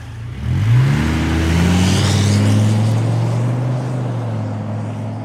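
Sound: lorry engine driving away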